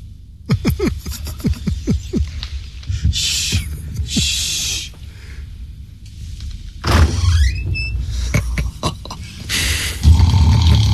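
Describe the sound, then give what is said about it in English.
The door to a horse's stable is worked open with a run of clunks and rattles, then a long rising creak of the hinge and more knocking as it swings, fairly loud. “Now to open the door to his stable.”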